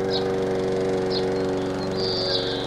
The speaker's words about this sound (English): Whatever is that fearful racket? That is only the lawnmower.